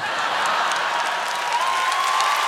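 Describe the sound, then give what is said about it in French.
Steady audience applause, a dense wash of many hands clapping at an even, fairly loud level throughout, with no talking over it. “Mais l'applaudissez pas.”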